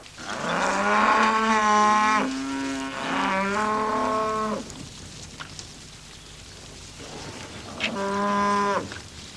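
cows mooing

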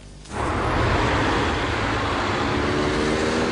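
city street traffic

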